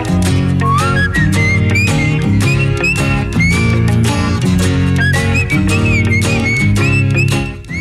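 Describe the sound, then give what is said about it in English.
A bright whistled melody glides and wavers over a full pop band, with steady drums and chords underneath, loud and continuous for several seconds. “I've never been able to whistle.”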